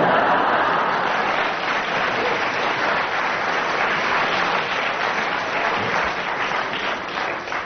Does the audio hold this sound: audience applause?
yes